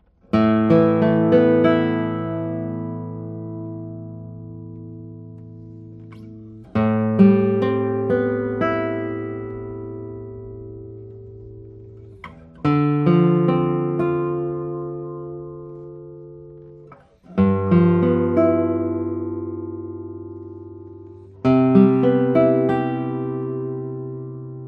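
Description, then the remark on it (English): Acoustic guitar from 2024, with a light body, cedar top and Indian rosewood back and sides: five strummed chords, each struck sharply and left to ring out for several seconds, bright and full, with no talking over them. “Let's play a few tones on it.”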